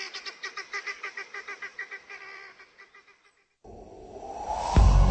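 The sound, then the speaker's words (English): Helmeted guinea fowl squawk in a fast, rhythmic run of harsh, raspy calls that gradually taper off. A louder, noisy burst of different sound follows. “Helmeted guinea fowl are easily domesticated, but they'll always remain flighty, squawky, birds in a panic.”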